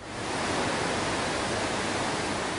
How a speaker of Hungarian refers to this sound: Lezárják a Siózsilipet. Az átfolyó víz mennyiségét folyamatosan csökkentik. Így most 15 köbméter vizet eresztenek másodpercenként a Balatonból a csatornába.